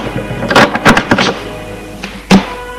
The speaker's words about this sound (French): ferme la porte.